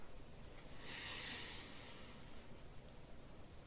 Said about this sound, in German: Okay, atmen wir mal ein.